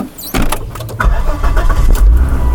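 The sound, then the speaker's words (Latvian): A few sharp clicks and rattles, then the engine of a mud-covered car swells into a steady, loud low rumble as it pulls away from Ķemeri railway station in Latvia early in the morning. “Rulējam tālāk.”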